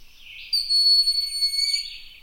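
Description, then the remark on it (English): A single thin, high-pitched whistled call from a broad-winged hawk, starting softly and holding a steady piercing tone for about two seconds before fading, heard alone against a quiet background. “Broad-winged hawk.”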